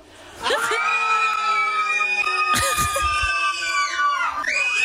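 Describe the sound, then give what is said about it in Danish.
A group of people gathered for a birthday scream together in a loud, sustained, high-pitched chorus while a cake is being cut. The scream rises suddenly after a brief moment and holds for several seconds, with voices wavering and overlapping throughout. “Nej, man samles alle sammen, og så skriger man.”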